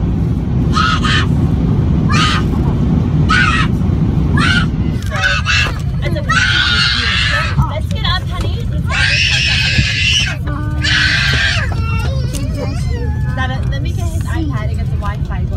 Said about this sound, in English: from Lufthansa from Germany to Newark? That's an 8-hour flight. Mm-hmm. And you had a screaming toddler on it. This has gone viral. This is from a few months ago, but it went viral yesterday on YouTube. Could you stand this in your plane for 8 hours?